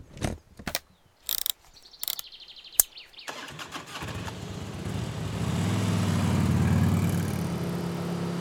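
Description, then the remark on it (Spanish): A few sharp mechanical clicks and clunks, then a motorcycle engine starts and settles into a steady, rumbling drone that grows louder and deeper as the bike gets moving, ridden by two people across an island by the sea. “Ay, creo que me gusta andar en moto.”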